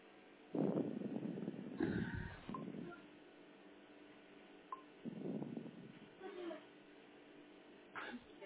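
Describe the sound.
A phone number being dialed from the First City Hospital: a few short electronic keypad tones through a thin, phone-line sound, mixed with muffled voice-like bursts and pauses.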